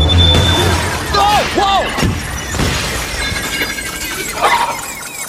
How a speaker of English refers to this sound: And that's the point in the movie where Pink smashes all the mirrors and cuts himself, right?